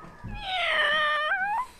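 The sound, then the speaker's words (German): A single drawn-out, high-pitched meow from a small black-furred baby kitten, taken from a shelf among paint bottles and paper in a basement, fairly loud, rising and then falling in pitch over about a second and a half, with no talking. “Seht mal, ein kleines Babykätzchen.”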